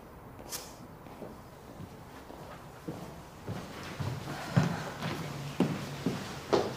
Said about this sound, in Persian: گوش کن صدای پاشو.